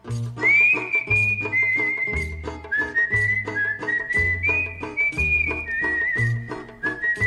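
A clear whistled melody in a Greek song, held notes gliding between pitches, carried over a steady strummed and plucked instrumental accompaniment with a rhythmic bass pulse, fairly loud, no voices.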